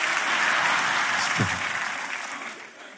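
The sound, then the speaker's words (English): A church audience applauds itself together, a dense, steady wash of many hands clapping that gradually thins and softens toward the end. “Give yourself a hand for bringing your butt to church.”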